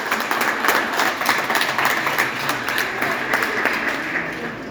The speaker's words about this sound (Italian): Ecco, un applauso.